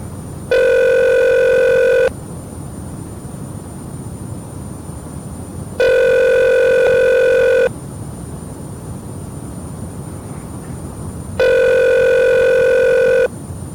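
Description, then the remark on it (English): An outgoing call's ringback tone sounds three times, each steady electronic ring lasting about a second and a half, separated by longer pauses filled with a low line hiss. “This will be a phone call to”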